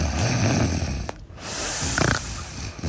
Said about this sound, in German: Also man atmet so durch die Nase und dann kommt da so ein Schnarcher raus. Das hört sich an wie ein Hubschrauber.